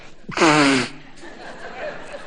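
A single loud nose blow, a half-second honking burst with a buzzy, trumpet-like tone sliding slightly downward, then fading into quiet background hiss.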